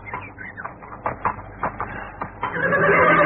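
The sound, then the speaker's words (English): Horses from a horse-drawn trap whinny and snort in a string of short, wavering cries as they are tied up by a church, with a rising, breathy whinny filling the last second. “I'll tie the horses up for you.”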